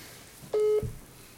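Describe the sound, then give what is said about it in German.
A single steady electronic ringing tone of an outgoing video call on a phone, lasting about a quarter second, clear and fairly loud against a quiet background, followed by a soft low thump. “Machen wir mal Videoanruf und dann erkläre ich ihm gleich, dass wir hier mitten im Podcast sind.”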